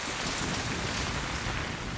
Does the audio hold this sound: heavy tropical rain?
yes